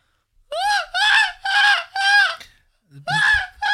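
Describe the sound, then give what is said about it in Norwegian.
A person imitates a seagull with four loud, strained, nasal cries in a quick steady rhythm, then a short pause and one more cry. “La meg prøve på måker da.”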